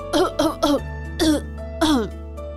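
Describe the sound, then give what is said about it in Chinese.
A run of three quick, throaty coughs, then two more spaced-out single coughs, fairly loud, each with a voiced, rasping edge over a low steady hum; someone keeps coughing while going off to play with the others. “胖胖丢下这个问题，继续边咳嗽边和大家一起玩。”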